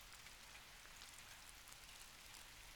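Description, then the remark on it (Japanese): Steady rain falls with a dense, continuous hiss, drops pattering evenly on a surface at a soft, constant level with no voices. “あー、ほら雨だし、せっかくの男女二人だし。”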